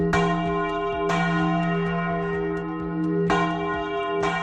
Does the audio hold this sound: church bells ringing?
yes